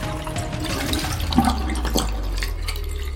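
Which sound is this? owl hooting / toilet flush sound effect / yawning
toilet flush sound effect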